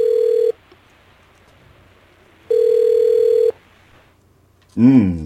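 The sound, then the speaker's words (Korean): A telephone ringback tone sounds in two steady, evenly spaced buzzing bursts with a pause between, followed by a brief voice-like warble at the end, clear, as Xiang Yu places a call to Ying Bu. “항우 폐하께서 직접 전화를 다 주시고 두루두루 잘 지내고 계시죠?”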